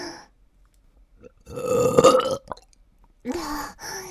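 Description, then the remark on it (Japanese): Two loud burps, the first long and guttural and the second shorter, separated by a brief quiet gap, with no talking. “もっとザーメンゲップしろ。”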